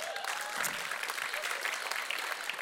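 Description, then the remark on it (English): An audience breaks into steady, dense applause for a volunteer called up to the stage, with a few cheering voices mixed into the clapping. The crowd sounds moderately loud and evenly sustained, with no talking over it. “Come on, give a cheer for”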